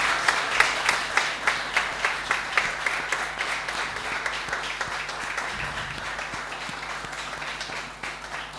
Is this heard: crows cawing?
no